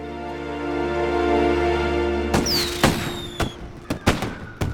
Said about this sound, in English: Why do you reckon they're shooting them fireworks tonight? Is it some kind of celebration?